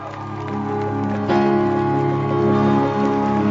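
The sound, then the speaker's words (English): Steady church audience applause at the Connect 2023 event, welcoming Apostle Mike Oroko, dense and continuous, jumps louder about a third of the way in and keeps going over sustained, held musical tones. “Hallelujah, with a great shout of applause unto the Lord.”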